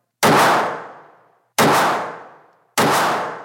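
gunshots

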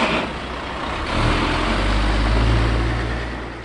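trucks

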